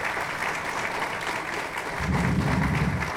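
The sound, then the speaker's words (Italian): Steady audience applause for the event organizers, a dense wash of many hands clapping that swells and grows fuller partway through, with no voices over it. “Io vi chiedo un applauso e ringrazio gli organizzatori per questa sensibilità.”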